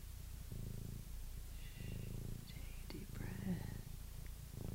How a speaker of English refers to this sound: Listen to the sound of this pleasant purrs. Oh, it's real good.